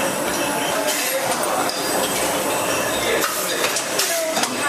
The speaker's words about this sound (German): Also Sie hören jetzt sehr schön diesen Sound von der Kapselmaschine. Da werden die Kapseln eingeführt, beziehungsweise auch von der Korkmaschine. Hier wird jetzt ein Naturkorken reingepresst.